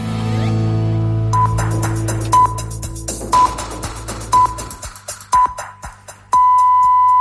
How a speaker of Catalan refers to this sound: arribem a la una, senyals horaris, ens informem